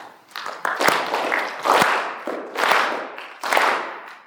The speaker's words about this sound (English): And I also want you to clap your hands.